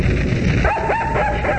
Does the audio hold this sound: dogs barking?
yes